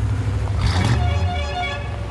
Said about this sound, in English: A bright yellow Hummer pulls up outside the bakery and honks.